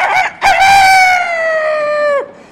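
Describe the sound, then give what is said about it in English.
A voice imitates a rooster crowing: a short clipped note, then a long, loud, drawn-out call that holds steady and drops away at the end, with no other sounds. “Oh, try my coxcrow.”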